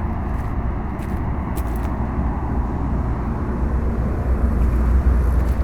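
Dense, continuous road traffic rumble from a traffic jam, low and steady, with a broad wash of engine and tire noise and faint brief higher clicks, swelling slightly louder toward the end.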